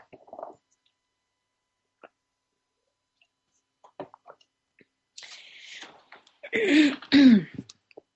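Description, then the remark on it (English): Quiet sips of water and small swallowing clicks, followed by a couple of breathy rustles and then two loud, rasping throat clears near the end. “I need a little water, sorry.”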